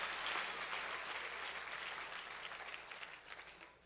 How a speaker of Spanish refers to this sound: Dale fuerte ese aplauso al Señor, iglesia.